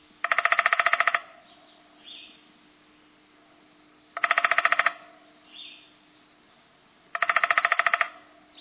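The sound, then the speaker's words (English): Three short bursts of rapid, even downy woodpecker drumming, each a fast rattling roll about a second long, spaced a few seconds apart, with faint high chirps in the pauses. “More likely, you'll hear the drumming of the downy.”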